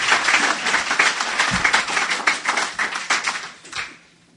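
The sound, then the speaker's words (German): A brief burst of applause from a group at a self-help award ceremony, for a chief physician who spoke at the microphone, dense overlapping claps at a steady loud level that thin out and fade over the final second. No one speaks. “Ein kurzer Applaus hat er sich auch wollen.”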